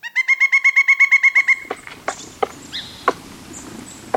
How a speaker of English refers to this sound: These loud, hard whacks are made by a pileated woodpecker as it leans back and then slams its chisel of a bill into the side of a living tree. Sounds painful, if not downright disabling.